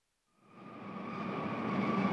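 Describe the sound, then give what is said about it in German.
Train station ambience as a train rolls in: a broad rumble swells up out of silence with steady high whining tones above it, growing louder throughout. No voices. “Sie warten auf Ihren Zug nach Genf und hören folgende Information.”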